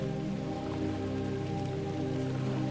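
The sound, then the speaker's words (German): Steady Salzburg drizzle (Schnürlregen) falls continuously from thickening clouds, a soft even patter of fine, cool raindrops falling like threads onto a surface, moderately loud with no breaks or voices, the surroundings veiled in fog. “Der typische Schnürregen, auch bekannt als Salzburger Schnürlregen, lässt die Umgebung in ein Nebelfeld tauchen.”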